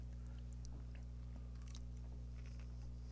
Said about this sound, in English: It's funny because even when he leans back, there's still this you can still hear it, background crunching in my ear. Mm-hmm. No, it's fine. Like, I want everyone to know. I mean, he's actually kind of hammering these pickles right now.